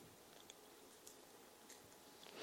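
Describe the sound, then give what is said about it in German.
Soft, evenly spaced ticking like a heartbeat pulse, about four faint clicks roughly every half second over a quiet background hiss, with no one speaking. “Aber hier kannst du zumindest den Pulsschlag dieses Herzens etwas abspüren, wie dieses Herz tickt.”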